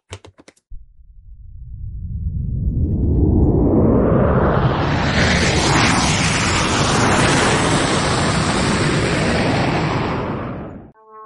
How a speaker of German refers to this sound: Hörst du das auch? Das ist aber ein lautes Flugzeug. Ich muss kurz gucken. Das ist bestimmt eine Lufthansa-Maschine, die fliegen immer so. Nein, ist ein Testflug von Finkenwerder.